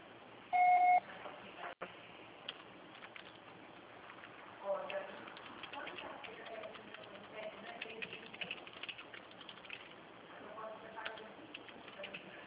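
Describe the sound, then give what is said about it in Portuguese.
A single short, steady electronic beep, the kind a voicemail plays to signal recording has started, followed by quiet, muffled background murmur and faint clicks over a narrow phone-line sound. “Você pode apresentar o fado após o sinal.”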